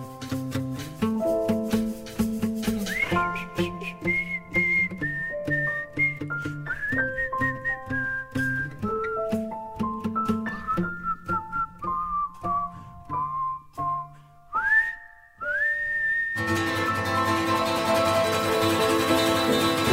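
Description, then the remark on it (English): A bright, clear live whistled melody rises and falls over a plucked acoustic guitar, treated piano and light percussion, steady, before the music swells into a fuller, noisier passage near the end. “doing the live whistling, folks.”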